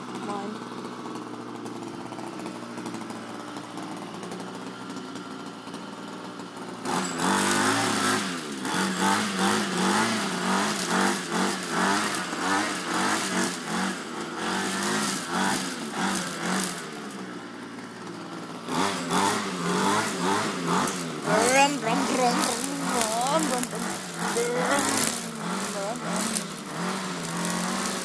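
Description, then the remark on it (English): A handheld lawn mower engine kicks in after a quiet stretch and runs loud, its small-engine whine wavering and revving up and down, briefly dipping before roaring on again. “But this lawnmower is a one that you hold in your hand and you have to”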